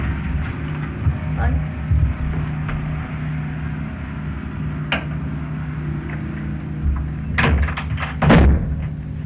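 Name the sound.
door being shut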